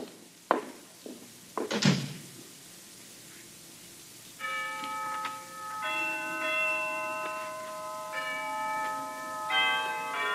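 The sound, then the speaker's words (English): A few sharp knocks and a thud, then the bells of Harkness Tower on a college campus begin chiming noon, several ringing strikes with long, shimmering overlapping tones that sustain steadily, fairly loud, with no talking. “Down from the Harkness Tower floated the chimes of noon, unheeded by the busy undergraduates piling out of classes, criss-crossing the campus as they dashed for eating clubs and fraternity houses”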